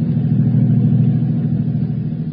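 A car engine drones steadily while driving, a loud, continuous low rumble with no speech and no change in pace throughout.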